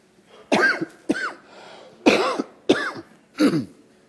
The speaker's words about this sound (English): Thank God. Thank God for the ability to cough. God made the human body so when you get stuff inside of here, your body would want to cough it up.